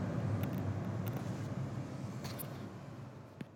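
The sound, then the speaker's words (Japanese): Steady low engine rumble and road noise from inside a small, low-bodied moving bus seating about eight to ten people, on a ride to the Grand Cube in Nakanoshima. A continuous drone with a few faint rattles and a brief click near the end, no talking. “でも乗り心地っていうか乗る時の段差とかもほとんどなく、マイクロバスより車体が低いイメージでしたね。”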